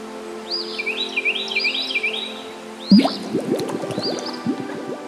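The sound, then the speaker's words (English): Birds sing in a steady run of quick, high whistled chirps. About halfway through, a bubbling, dripping watery sound joins in beneath the continuing birdsong. No one speaks. “Take the sound of birdsong and add it to your cauldron.”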